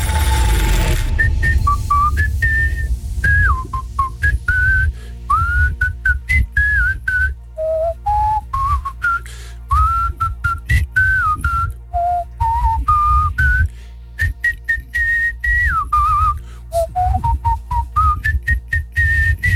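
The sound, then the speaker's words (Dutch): A simple fipple flute, a cheap farmer's whistle, plays the verse melody of a song, bright, clear notes moving in short phrases with brief pauses, over a low background rumble and no voices. “Het couplet van welk liedje floot ik hier op mijn boerenfluitjes?”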